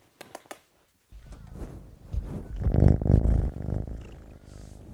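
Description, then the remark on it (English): A kitten purrs, a low continuous rumbling that swells louder midway, preceded by a few soft clicks and a brief silence. “Anyway, I'm going to go find the kitten and do an interview with the kitten.”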